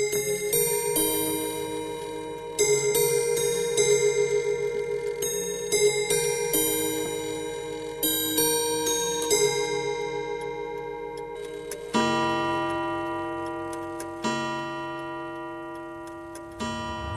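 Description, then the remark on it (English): An old mechanical clock at a horology institute, where students learn to put clocks and watches back together, ticks steadily and evenly, while ringing chime tones sound through the ticks and swell into a louder, sustained Westminster chime melody partway through. No one speaks. “And the clock they have in there, that old one, is really fascinating. The movements are just beautiful.”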